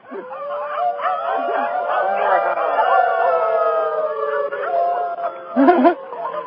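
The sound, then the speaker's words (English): Several people howl like wolves together from rooftops in Jalapa, their long, wavering, overlapping howls filling the whole stretch, loud, with a brief yelping burst near the end. “Howling from the rooftops of Jalapa.”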